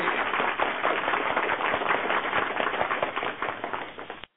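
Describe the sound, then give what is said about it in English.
A recorded applause sound effect played to welcome guests: a steady burst of crowd applause, dense crackling claps at an even loudness for about four seconds before cutting off abruptly, with no voices over it. “Let's hear it, everybody, as soon as I can find the applause.”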